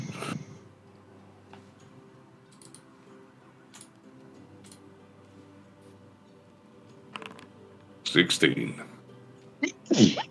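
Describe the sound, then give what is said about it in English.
A sharp sneeze bursts out, then a second sneeze a couple of seconds later, with soft clicking like typing and faint background murmur in between. “Bless you.”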